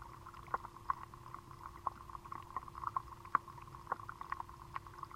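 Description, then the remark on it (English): Sharp, irregular clicks and ticks from aquatic insects, recorded underwater with a hydrophone, pop out of a dense underwater hiss, about a dozen over a few seconds, with a faint steady hum running beneath. “you'll get different waves of insects who are active at different times of day, who like water at a certain temperature”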